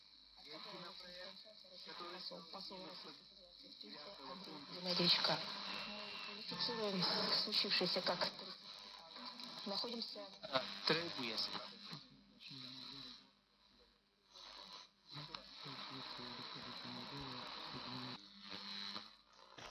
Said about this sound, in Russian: Итак, друзья, демонстрирую звукозапись работы приемника средних волн 19 декабря 2016 года, время 22 часа 17 минут. Перестройка по частоте осуществляется сверху вниз.